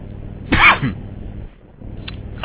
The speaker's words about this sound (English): Cough, hack.